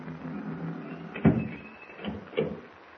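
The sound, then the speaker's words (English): A door swings shut with a solid thump, followed moments later by a softer knock, over a low room hum with no one speaking. “Close the door.”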